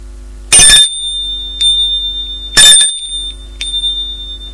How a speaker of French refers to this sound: Arrivé au 2e étage, il y a 2 portes. C'est celle de droite. Un peu hésitant, il sonne.